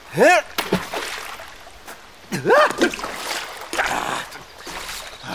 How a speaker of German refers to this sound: Jetzt bin ich in den Bach getreten. Meine Schuhe sind nass.